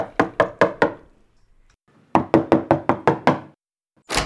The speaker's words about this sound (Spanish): En ese momento, llamaron a la puerta.